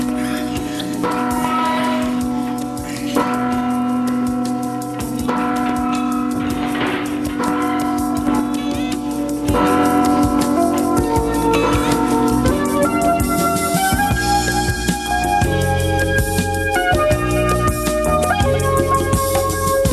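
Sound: large bell ringing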